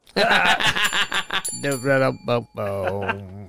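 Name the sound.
bell ding sound effect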